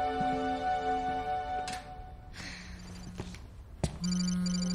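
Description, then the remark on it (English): A phone rings with an electronic tone over a soft background hum, then a sharp click and a brighter, pulsing trill of the ringtone that starts up near the end, clear; a man then answers the phone. “He answers his phone.”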